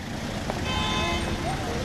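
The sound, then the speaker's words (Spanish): Steady city street traffic in Paris on an ordinary weekday rumbles throughout, with a car horn tooting briefly in the middle; faint voices murmur in the busy background. “De nuevo, con coches”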